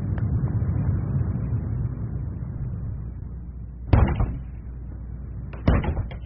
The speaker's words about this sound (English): Who's that? Why did he shut the door?